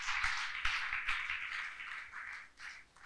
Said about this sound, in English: Clap, clap. If you're clapping, clap.